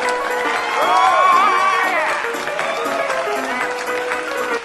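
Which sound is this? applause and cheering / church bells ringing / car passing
applause and cheering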